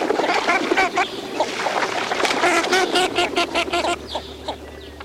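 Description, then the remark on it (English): Dozens of Northern Shoveler ducks feed side by side on a pond, paddling and sweeping the surface while rotating in a circular pattern, with a steady stream of clucking, quacking calls over busy water sounds, fairly loud throughout. “a feathered phalanx paddling and sweeping the surface, all the while rotating in a circular pattern across the pond.”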